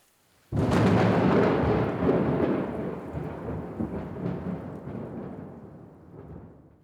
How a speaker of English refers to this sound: These drops of water become too heavy to stay in the air, so they fall to Earth as rain.